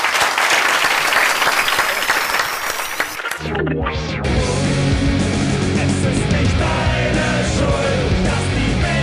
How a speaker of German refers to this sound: schickt Sie mit einem tosenden Applaus nach draußen. Vielen Dank.